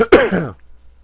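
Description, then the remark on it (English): A person has a coughing attack, clearing their throat with a short, rough vocal burst followed by a raspy cough, fairly loud, then quiet. No speech. “I had to pause the tape there and had a coughing attack.”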